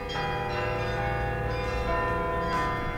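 The bells of the ancient Martini Tower in Groningen, Netherlands, chime a pop tune, each struck note ringing and overlapping the next in a rich, sustained wash of metallic tones, with no voices present.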